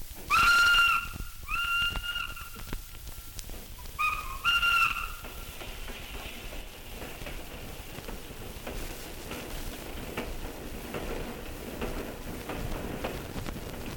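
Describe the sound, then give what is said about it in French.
A train whistle gives three steady, mid-pitched blasts, two in quick succession and a third after a pause, then a continuous low rumble and hiss as the express train from Nantes rolls into a suburban station. “Le rapide de Nantes entre en gare.”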